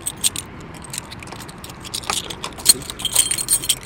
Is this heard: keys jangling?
yes